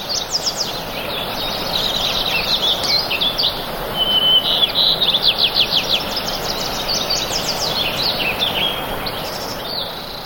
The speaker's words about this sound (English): This is audio that was recorded a couple of dozen miles northeast of Jackson Hole, Wyoming, at Spread Creek Pond in June of 1981. You hear all sorts of beautiful sounds, yellow warblers, Wilson's warblers, house wrens, dusky flycatchers.